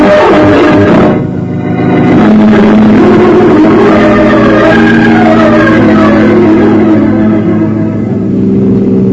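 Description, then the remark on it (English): A car engine roars and accelerates loudly, its low steady drone rising in pitch as it revs up, with a brief dip before the engine surges on continuously for several seconds. “Better drive a little faster”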